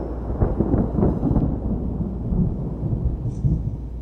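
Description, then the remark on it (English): Deep, rolling thunder rumbles steadily through a thunderstorm on May 12, 1846, as a wagon train heads west from Independence, Missouri; loud and continuous low booms with a faint hiss of rain underneath and no voices. “The next day, May 12, 1846, they headed west again in the middle of a thunderstorm.”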